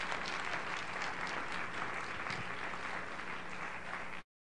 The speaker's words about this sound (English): Okay. Can we give her another hand clap of appreciation?